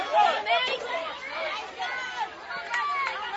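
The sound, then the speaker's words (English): A Washington County crowd at a baseball game, buzzing with loud, overlapping chatter and cheering voices in the top of the sixth inning of a tie game with runners on first and second. A steady, excited roar swells and rises in waves without a clear break. “And the Washington County crowd is getting loud because they are excited.”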